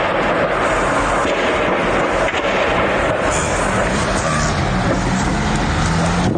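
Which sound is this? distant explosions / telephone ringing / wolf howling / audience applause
distant explosions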